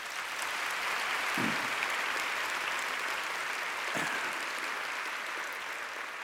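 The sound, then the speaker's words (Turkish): Steady, sustained applause from a concert audience welcoming the performer at a show with a symphony orchestra, a dense wash of many hands clapping at an even loudness throughout, with no voices standing out. “Önce ayaklarınıza sağlık, sonra alkışlayan ellerinize sağlık.”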